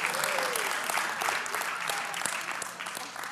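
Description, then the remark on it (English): An audience claps steadily, a dense, continuous patter of many hands with no pauses, fairly loud throughout the few seconds, with a faint voice briefly rising underneath. “And you see, whenever I began to say, yeah, clap.”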